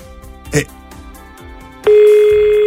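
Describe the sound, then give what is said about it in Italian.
After a brief stretch of soft background sound and murmuring, a loud, steady telephone ringing tone starts abruptly as a call is placed to a person who will answer, and holds without a break to the end. “E devo far dire la parola scuola, scuola, alla persona che ci risponderà adesso al telefono.”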